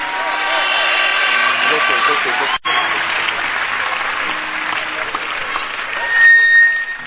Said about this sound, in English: Please, can you just give the Lord a round of applause for these people?